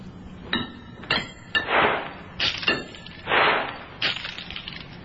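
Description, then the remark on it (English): Coins are hurled around a stone chamber floor, the last few far over to the other side: a few sharp metallic clinks, then bursts of skittering, scattering rattles, ending in a run of lighter tinkles as the last coins settle. “Dr. Humer hurled the coins around the chamber floor, the last few far over to the other side.”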